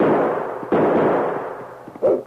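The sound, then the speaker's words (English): Two loud gunshots ring out about a second apart in a Sergeant Preston story, as a dog sled pulls away from a town jail, each a sharp blast with a long rumbling decay, followed by a brief, higher-pitched burst of sound. “Lobo, you stay out of the line of fire.”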